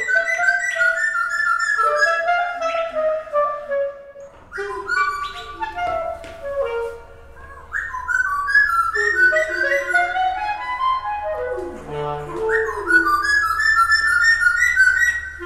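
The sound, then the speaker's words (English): A small bird with brown feathers and a dark beak sings bright, rapid chirps and trills in call and response with a clarinetist's sustained, gliding clarinet phrases, the two overlapping and trading lines throughout, with a low steady hum underneath in the second half. “This bird and this clarinetist are doing something together.”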